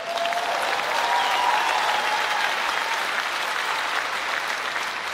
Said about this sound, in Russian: А что такие аплодисменты слабые